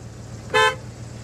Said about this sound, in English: Now honk your horn. What? Honk it!